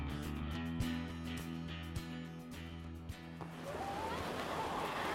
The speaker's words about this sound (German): Ach, oh, herrlich. Meeresrauschen.